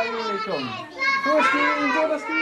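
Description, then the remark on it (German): High, lively voices of little girls chatter and call out over one another in a steady, busy stream, their pitch rising and falling as they play together in a kindergarten reached by a staircase off a small passage beside a market. “In einem kleinen Durchgang führt eine Treppe in einen Kindergarten.”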